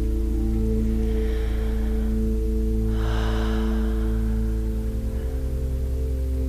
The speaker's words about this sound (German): Und wir atmen dazu.